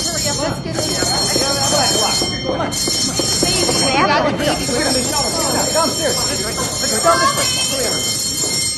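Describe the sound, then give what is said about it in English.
A loud avalanche warning alarm, sounded to get everyone into a shelter, blares steadily without pause over a dense, rumbling background while voices talk beneath it. “I'm going to sound the alarm and get everyone into the shelter.”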